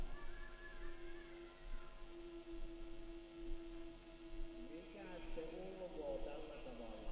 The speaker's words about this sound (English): What is that? That has this kind of sound? It's a wolf.